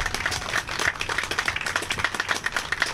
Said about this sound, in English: And we get that because of the dedication of our volunteers. And I see a whole bunch of them around here. So how about a round of applause for our volunteers too?